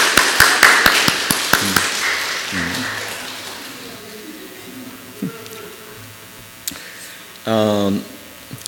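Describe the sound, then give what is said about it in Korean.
A crowd bursts into brisk, loud clapping of encouragement for the fathers present, which thins out and fades within about two seconds, leaving a quiet murmur of voices and a low hum, then a short rising tone near the end. “또 저들 우리 자 그러면 우리 아버지가 한 세 분 네 분 계시는데 우리 아버지를 위해서 같이 격려 박수 부탁드립니다.”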